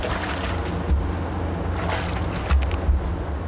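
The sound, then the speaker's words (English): A thick liquid sloshes and swirls steadily as a long pole stirs moromi, the fermenting rice mash in a brewing tank at a brewery. The mash looks like thin, milky porridge, bubbling gently from fermentation. A continuous watery churn is broken by a few dull, low thumps, with no voices. “She leans over one of the tanks, stirring with a long pole.”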